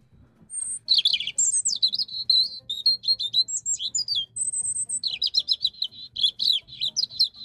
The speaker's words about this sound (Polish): tak na przykład mamy Rudzika, którego piosenka to już jest naprawdę, mówiąc młodzieżowo, sztos.